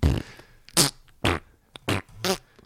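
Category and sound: human body sound, fart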